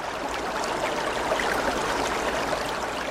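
A steady, gentle rush of the Kephisos (Cephissus) River, not clear after a flood, runs without a break, soft and even with a faint bubbling texture, heard on its own with no voices.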